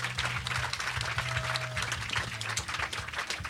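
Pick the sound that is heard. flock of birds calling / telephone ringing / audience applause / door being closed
audience applause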